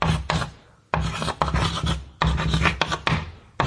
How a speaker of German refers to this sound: Ich nehme jetzt auch mal die Kreide auf Schultafeln.